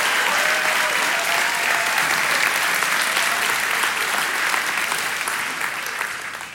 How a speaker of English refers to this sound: Oh, come on. You clapping worse than I'm preaching. Come on, somebody.